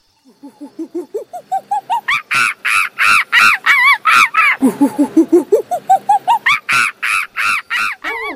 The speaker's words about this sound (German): Oh, hört mal, so viele Vögel!